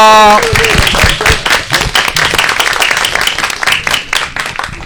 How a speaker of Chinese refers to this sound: 大家要做到的就是鼓掌和欢笑。来，我们朋友们来放松一下，鼓掌欢笑，来来来。